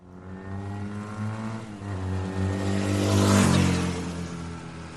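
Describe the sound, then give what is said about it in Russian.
A steady, droning engine hum with strong low harmonics from several motorcycles riding past sunny alpine meadows, swelling louder and climbing slightly in pitch around the middle before settling. No voices. “Природа пела, и мотоциклы вторили ей стройным гулом.”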